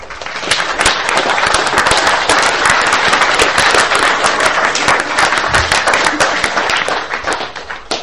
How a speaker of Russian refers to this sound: Всегда хлопают после лекции. Такое чувство, что я на концерт даю.